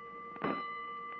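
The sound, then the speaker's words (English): A fire alarm telegraph bell taps once, its clear metallic tone ringing on steadily, with a fainter second tap near the end, signaling a third alarm from box 3-2 at Clark and Montague in the warehouse district. Fairly quiet, with no voices. “Hold it, Collins, a third alarm.”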